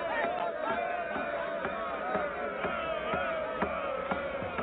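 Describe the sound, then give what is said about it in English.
A dense crowd of students chatters and shouts all at once, a steady muffled wash of overlapping voices, punctuated by recurring sharp thumps throughout, as a man playing a ceremonial drum walks to the middle of the crowd. “He walks to the middle of the crowd.”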